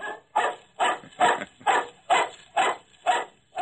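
A dog barks about eight times in a steady, evenly spaced rhythm, each bark loud, with no voices, and a faint high whine runs underneath throughout.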